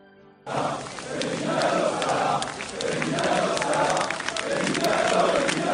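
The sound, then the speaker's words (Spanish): A large crowd of Nantes football fans gathered at night in the city square, a dense, continuous roar of many voices with rising waves of chanting and shouting, sustained and loud after a brief quiet start. “Su antigua afición, la de Nantes, se congregaba anoche en la plaza de la ciudad para mantener viva la esperanza.”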